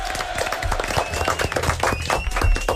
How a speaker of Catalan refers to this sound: Ho heu fet molt bé. Un aplaudiment per vosaltres mateixos.